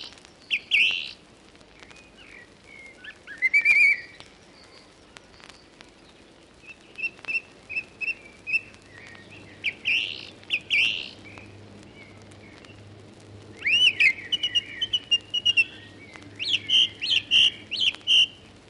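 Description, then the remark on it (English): A song thrush sings in bursts of bright, varied whistled phrases, each repeated with short pauses between, over a faint low hum and no talking. “Song thrush, song.”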